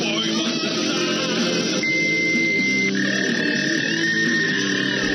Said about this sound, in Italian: E quello che stiamo ascoltando è un jingle dannata, è del 2000, con i suoni del modem, sembra infatti veramente, sembra la preistoria. L'internet della preistoria.